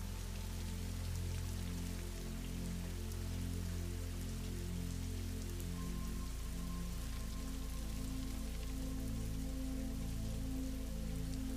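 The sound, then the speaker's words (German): Steady rain patters on a surface, a continuous dense hiss of droplets with a low, sustained hum beneath it, heard alone without any voices. “Und nimm nun einmal die Geräusche des Regens wahr.”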